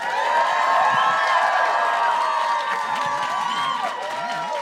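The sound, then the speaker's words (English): A lively audience claps and cheers together to cast a fan vote for Tonks to win the November nuttiness bracket, a steady wash of applause mixed with excited shouts and whoops from many voices, sustained loudly for several seconds before easing slightly. “Okay, now, who thinks that Tonks should win the November nutties bracket? Clap your hands.”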